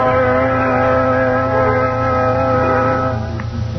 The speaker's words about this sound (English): Look. Look, that car. It's slowing down in front of the house.